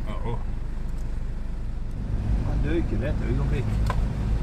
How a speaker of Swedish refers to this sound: Det går inte att skjuta när bilen hoppar.